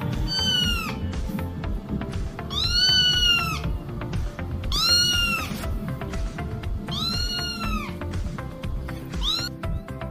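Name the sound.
small kitten meowing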